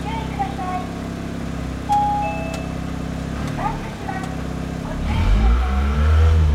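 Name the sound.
engine revving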